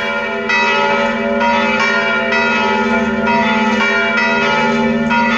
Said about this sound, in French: Et là, vous entendez un autre type de sonnerie, puisque c'était lors d'une fête. C'est l'ensemble des cloches en plénum qui sonnent à la volée pour annoncer cette fête.